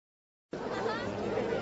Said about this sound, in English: People are standing around, watching and listening and talking.